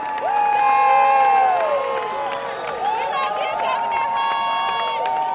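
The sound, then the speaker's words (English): A loud, sustained yell from a convention delegate from Greensboro rises above a roaring convention crowd, many voices cheering and shouting together, with some scattered clapping underneath throughout, during Governor Hunt's remarks. “That yell you hear is Delegate”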